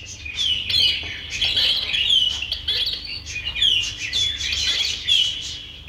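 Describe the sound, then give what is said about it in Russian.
Several songbirds chirp and trill continuously in a dense chorus, bright high whistles overlapping throughout, with a soft low ambient rumble beneath and no voices; birdsong from an early vinyl nature record released for health purposes. “это был диск, который назывался «Голоса птиц в природе». Все мы этим увлекались, слушали этих птиц как лучшую музыку.”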